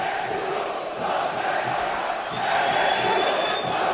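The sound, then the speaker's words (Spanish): Atlético fans in part of the south stand (fondo sur) of the stadium shout together in a dense, steady roar of many voices, swelling slightly louder toward the end without any single voice standing out; the shouting is not unanimous across the ground. “Ha habido más gritos ahora, sí.”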